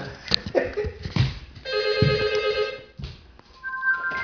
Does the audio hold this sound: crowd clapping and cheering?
no